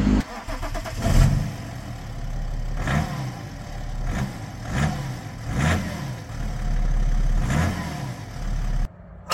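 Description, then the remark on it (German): A BMW 7 Series F01 car engine turns over and catches, then keeps running with a deep, steady rumble broken by a few sharp revving surges. “Und wie er sich anhört, das hören wir jetzt.”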